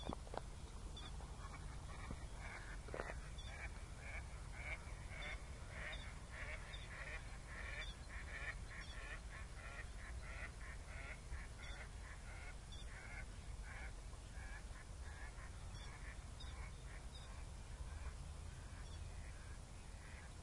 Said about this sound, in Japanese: それをいとも簡単に出してきよるね、やつらは。やつらっていうのは今泣いてる小やつらのことですけど、まあ街明かりがあるからね、この世の中でも鳥が鳴くんですよね。